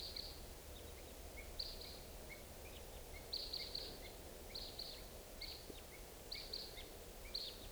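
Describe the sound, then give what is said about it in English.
Type 2 red crossbill calls at 6:55 in the morning as the birds come around: repeated sharp, high 'kip' notes in quick pairs and clusters from several birds, fairly faint over a steady low rumble of background noise, with no talking. “It's 6:55, and I hear crossbills, type 2s coming around.”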